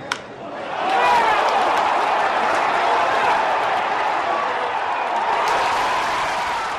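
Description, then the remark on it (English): A huge hometown baseball stadium crowd erupts in a roar of cheering as Barry Bonds drives a pitch to deep left center for home run number 735; the roar swells within the first second and stays loud and sustained, a dense wall of voices and clapping. “The crowd goes crazy.”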